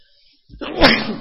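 A single loud sneeze: a brief sharp intake of breath, then one explosive burst of air and voice, trailing off quickly, with no talking around it.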